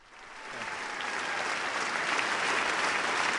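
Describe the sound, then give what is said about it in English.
Sustained applause and a standing ovation from a large crowd at President Barack Obama's first address to a joint session of Congress, a dense steady wash of clapping that swells quickly at the start and holds loud and even throughout, with no voices standing out. “After long applause and a standing ovation, the president spoke frankly and directly to the American people”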